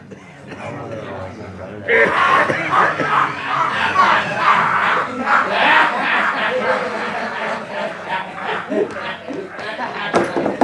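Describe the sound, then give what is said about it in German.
A noisy crowd in the Spyglass tavern (Schenke zum Fernrohr), its air thick with tobacco smoke: many overlapping voices chatter, shout and laugh in a loud, continuous din that swells suddenly after a quieter start and stays busy throughout. “Die Tür stand offen, aber er konnte kaum erkennen, wie es drinnen aussah.”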